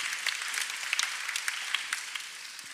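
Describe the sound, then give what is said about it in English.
A round of applause from a crowd for the players still in a game: dense, steady clapping with sharp individual claps poking through, moderately loud and sustained throughout, with no voices over it. “If you're still in the game, give these guys a round of applause.”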